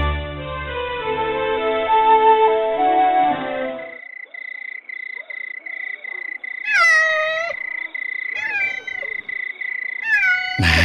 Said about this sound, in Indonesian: ini kucing yang Ayah janjikan padamu.